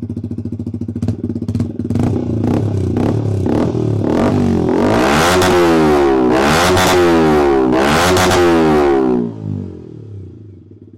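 A Yamaha R125 motorcycle fitted with an aftermarket exhaust idles with a deep, throaty rumble, then is revved sharply several times, each rev rising to a loud roar before dropping back, ending as the engine settles. It is not a cold start.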